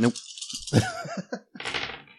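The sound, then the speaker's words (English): Dice rattle and clatter in two bursts, rolled in a game for an attempted knife stab, a longer shake followed by a short pause and a second rolling clatter, bright and fairly loud with no talking. “You get plus three dice because he is immobile.”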